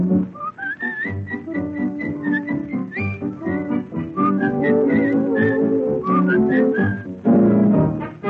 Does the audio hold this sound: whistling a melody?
yes